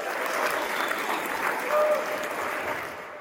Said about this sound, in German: Für dieses Versprechen erntet er ordentlich Applaus.